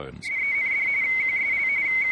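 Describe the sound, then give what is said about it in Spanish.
A steady, high-pitched two-tone encrypted radio teleprinter signal, of the kind British operators began intercepting in 1940–1941, warbles rapidly between two closely spaced pitches, a shrill bubbling chatter that holds at an even loudness for about two seconds over a faint hiss. “Se basaba en 2 tonos, y al ser transmitido producía una especie de burbujeo estridente y rápido.”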